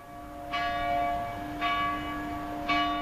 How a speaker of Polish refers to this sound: Dzwon kościoła świętej Małgorzaty Panny i Męczenniczki towarzyszy na co dzień mieszkańcom poznańskiej Śródki, starej dzielnicy Poznania, kiedyś osady targowej, położonej na prawym brzegu Warty po wschodniej stronie Ostrowa Tumskiego.